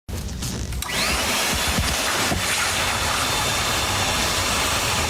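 A vacuum cleaner starts up with a rising whine, then roars steadily at full power, loud and continuous, with no one talking over it.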